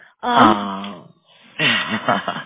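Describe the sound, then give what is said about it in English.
A child, one of five-year-old twins, screams in the background, letting out a loud, drawn-out wailing cry with a steady pitch, then, after a short pause, a second burst of higher, wavering shrieks and whines. “So occasionally you'll hear a scream in the background.”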